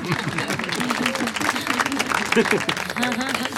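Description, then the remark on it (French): An audience applauds steadily, a dense patter of many hands clapping at once, with voices murmuring and talking underneath throughout. “Ces applaudissements, c'était toujours ça de prix.”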